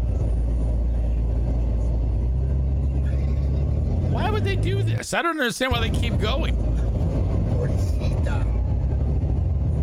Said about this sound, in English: The car's tires are screeching. This is no way to tow a car.